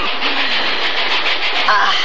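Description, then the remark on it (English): A steady, loud mechanical rumble and hiss of a moving train heard from up in the cab, with a faint rhythmic rattle running through it and no clear pauses, as the train nears Trinidad. “We're not too used to visitors up here in the cab.”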